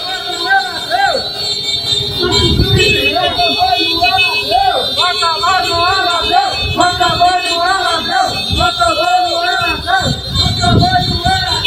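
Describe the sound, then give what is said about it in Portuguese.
Many horns blare at once in a loud, continuous, overlapping din, with tones rising and falling, as a group of motorcycle couriers honk in protest at a pharmacy. A shouting crowd and engine noise fill the background. “Logo depois, um grupo de motoboys foi pra farmácia. Foi pra farmácia fazer buzinaço.”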